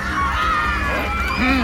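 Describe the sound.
An alarmed crowd in uproar after a man announces a troll in the dungeons at Professor Dumbledore's table: many overlapping voices shouting and crying out at once, loud and steady throughout the short burst, with one voice rising above the din near the end.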